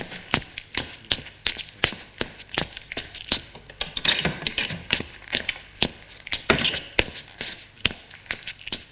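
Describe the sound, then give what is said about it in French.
Brisk, evenly paced footsteps of a woman walking to her boss's office in a shop tap across a hard floor, roughly two steps per second, crisp, continuing steadily for several seconds with no voices. “va au bureau de la patronne.”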